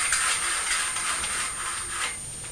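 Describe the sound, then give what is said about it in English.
A window blind is drawn open with a steady, rattling mechanical whir, its cord or chain clicking continuously through a ratchet for a couple of seconds, fairly loud with no talking. “Shall I open the blind and then you can see a bit better?”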